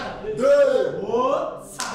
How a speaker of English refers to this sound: And when you bring them together, crack your hands together, and you stimulate both your kind of wisdom potential and your potential to become compassionate being.